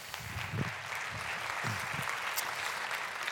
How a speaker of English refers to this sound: Great learnings. Great. Yeah, you can applaud those.